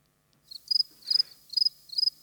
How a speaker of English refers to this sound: How can a classic dad joke like that be given the sound of crickets?